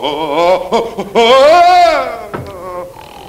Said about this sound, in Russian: Как он храпит? Ой. Он раньше так не храпел.